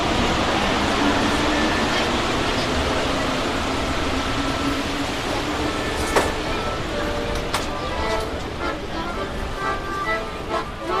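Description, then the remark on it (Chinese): Steady rumbling of a metro train in motion fills the space, a constant roar with faint whining tones and occasional metallic clicks and rattles toward the end. “我知道，这是在地铁里要饭的。”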